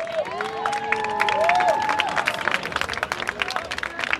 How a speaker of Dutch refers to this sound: Er volgt een daverend applaus van het publiek.